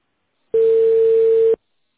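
A single steady telephone ringback tone sounds for about a second, clean and moderately loud, surrounded by silence, the kind of ringing heard while a callback is connected to a customer.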